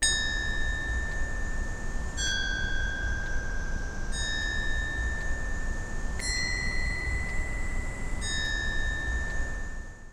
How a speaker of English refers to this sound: I also added the sound of a wind chime hanging in my backyard, and I shifted the pitch of some of the chimes.